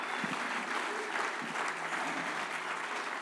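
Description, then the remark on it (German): A crowd applauds musicians and volunteer helpers, a steady, dense wash of many hands clapping at an even, fairly loud level throughout, with no one speaking over it. “Komm, macht mal denen einen großen Applaus für ihren Herz, für sein Haus.”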